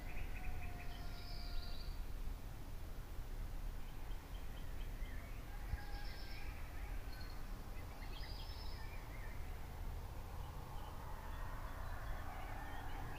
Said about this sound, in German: So, und damit wir mit dem Positiven auch mal ein bisschen anfangen, jetzt gleich mal ein bisschen Vögelgezwitscher. Es geht los. Mal gucken, ob man schon was hört.